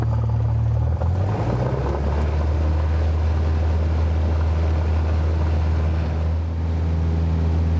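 A small propeller aircraft engine roars at full throttle with the brakes held on the runway before takeoff, a loud, steady drone with a rising pitch early on as it powers up, continuous with no talking.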